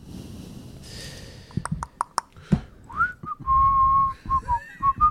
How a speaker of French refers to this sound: Merci de siffler, c'est parti.